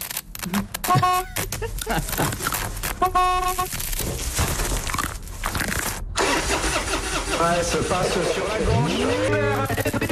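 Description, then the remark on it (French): A car horn set off by a stone marten chewing the cables under the car's bonnet sounds in short, uneven honks among clattering and an engine cranking over, then a rising, whining tone as the noise churns on. “La preuve avec cette fouine qui, en fonction du câble qu'elle boulotte, donne un curieux concert.”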